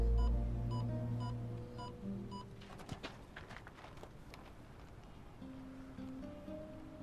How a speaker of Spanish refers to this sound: Es la alarma de voz. Es muy débil.